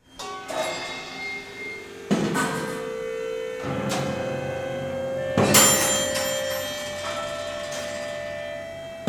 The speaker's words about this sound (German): Große Rollen und feinste Rädchen greifen ineinander, damit es kleppert und scheppert und klingt in den bewegten Skulpturen von Jean Tinguely. Für die ausgeklügelte Mechanik sorgte der Basler Künstler nicht allein.